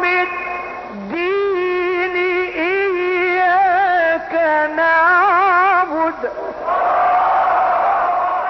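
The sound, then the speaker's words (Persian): A single voice recites the Quran in long, wavering melodic notes, then an enthusiastic crowd at the gathering breaks into loud cheering and shouting for the final couple of seconds. The reciter is Ustad Mohammad Badr Hussein. “محافلی که استاد محمد بدر حسین در اون تلاوت میکرد اغلب هم شلوغ بود، هم تشویقهای پرشور مردم در اونجا شنیده میشه.”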